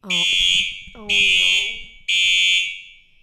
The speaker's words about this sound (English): We just had to go outside because, as you could tell, there was a fire alarm. They told us to get out, then they told us to get back in, and then we had to get back out again.